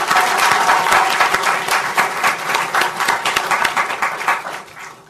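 Sustained audience applause for a presentation, a dense steady patter of many hands clapping that holds strong for several seconds before gradually thinning and fading at the end.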